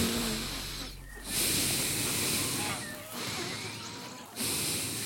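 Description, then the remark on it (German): An alpaca breathes nose to nose with a person, exchanging breath as a sign of trust: heavy airy huffs with a soft snorting edge, about three long breaths broken by short pauses. “Sie vertraut dir jetzt und möchte mit dir Atem tauschen. Also Nase an Nase und ganz vorsichtig atmen.”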